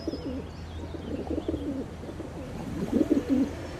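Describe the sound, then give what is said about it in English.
Pigeon courtship cooing, a series of low, throaty, rolling coos repeated in bursts, generated deep within the pigeon's body with the throat working like an amplifier, moderately loud over a soft outdoor background hum with no talking. “Courtship is also accompanied by a special coup.”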